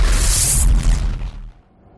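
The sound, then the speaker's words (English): A loud, deep engine roar from an open-top Aston Martin car with a rushing hiss, holding strong for about a second before quickly dying away into quiet. No one speaks. “took me out in her open-top car.”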